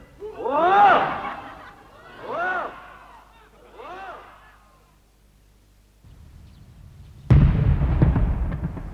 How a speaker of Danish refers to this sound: Jeg så det godt, da de skød med kanoner. De skød lige op over min farmors hus.